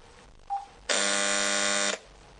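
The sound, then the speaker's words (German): A small telephone buzzer ringer (a 'Schnarre'), set off by calling the phone via redial, sounds once in a steady, harsh rasping drone lasting about a second, preceded by a brief faint click-like tone; no one speaks. “Ja, so eine kleine Schnarre.”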